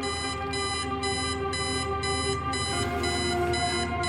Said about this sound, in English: The alarm went off, shrieking as Mickey knocked it to the ground.